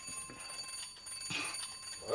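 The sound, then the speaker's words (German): A doorbell is rung wildly by someone who has rushed upstairs, its bright metallic tone buzzing nonstop in quick bursts for a couple of seconds, fairly quiet, with a faint voice rising near the end. “Dann saust Wumme nach oben und klingelt wie wild.”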